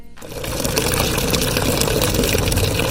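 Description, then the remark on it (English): A steady mechanical whirr, like a pump, runs with water gushing and splashing into a container as a housewife fetches water from a borehole in Ibafo, on the outskirts of Lagos. It starts abruptly and stays loud, with no one speaking. “fetches water from a borehole in Ibafo at the outskirts of Lagos.”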